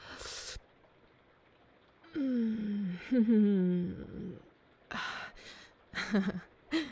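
Heavy breaths come in uneven bursts, some sharp and airy, others drawn out into low voiced moans, with quiet pauses between them and no words spoken.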